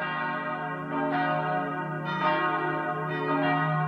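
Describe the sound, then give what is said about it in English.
Church bells ring out in a steady peal at the ancient Church of the Holy Sepulchre in Jerusalem's old city on Palm Sunday, a new strike landing about every second while the deep, resonant tones overlap and linger. The bells are clear and fairly loud, with no voices. “Palm Sunday dawned in Jerusalem's old city to the sound of bells at the ancient Church of the Holy Sepulchre.”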